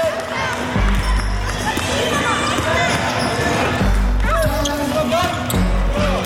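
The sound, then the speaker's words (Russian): Basketballs thump repeatedly against a gym floor in an echoing hall during a Stjarnan team basketball practice drill of two bounces on the floor, with several heavy low bounces and sneaker squeaks over a busy background of voices and movement. “Два раза в пол и два раза отбор.”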